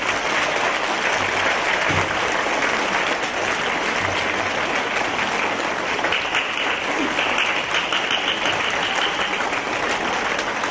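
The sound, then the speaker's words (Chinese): Loud, sustained applause from a large crowd, a dense wash of clapping that stays steady and enthusiastic for the whole stretch with no pauses, welcoming Lu Junhong (卢军弘台长). “现在让我们用最热烈的掌声恭请我们尊敬的卢军弘台长。”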